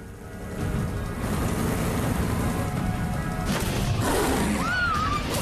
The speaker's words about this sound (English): Smoke billows from the exhaust as the truck starts. Alice puts it into gear and drives off.